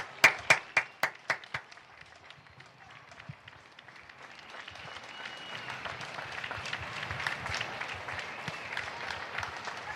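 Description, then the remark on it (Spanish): A handful of loud, sharp claps ring out at the start, fade into a scattered lull, then applause builds into steady, dense clapping that keeps going to the end, in Usera, Madrid, as a live tribute to health workers. “¡Aplaudir, que estamos en directo!”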